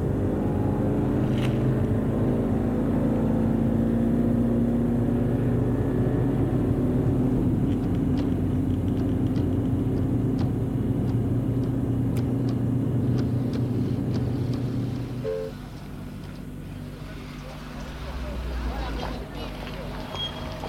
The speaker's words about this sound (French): Et le chauffeur a démarré. Pendant qu'il roule, elle essaye de voir Lyon, mais ne voit que des camions qui les croisent et quelques façades d'immeubles.